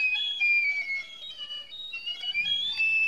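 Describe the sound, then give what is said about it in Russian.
A person whistles from behind a door during a classroom lesson, a steady, high-pitched tone for about three seconds, the pitch wavering slightly up and down without pause. A faint low rumble joins in near the end. “А кто свистит?”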